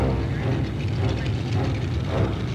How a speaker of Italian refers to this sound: L'aereo rulla sulla pista per allinearsi con la linea del decollo.